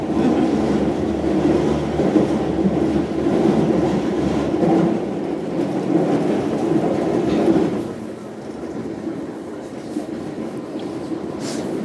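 A London Underground train heading toward Victoria station rumbles along between stations, a loud, steady roar of wheels and carriage noise that eases slightly toward the end, with no talking.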